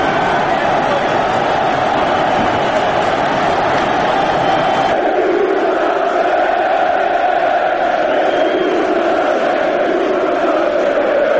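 A loud stadium crowd of football fans in Belgrade roars and cheers continuously as Serbia equalizes against Croatia in a World Cup qualifier, a dense wall of voices that shifts midway into a more chant-like, rhythmic swell.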